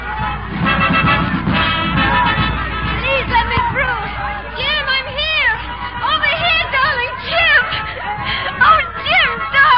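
crowd chatter

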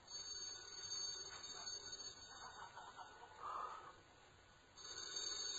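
telephone ringing

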